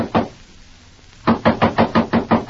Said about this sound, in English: Go on, knock! When you get tired knocking, walk into some lead.